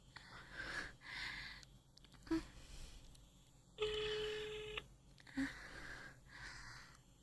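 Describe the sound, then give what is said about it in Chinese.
A phone call connecting: a couple of short electronic beeps and one steady ringing tone about a second long, clear, with soft breathy noises in between. “我给你们打个电话啊，你们不是喜欢听我一边自己弄的时候一边打电话吗？”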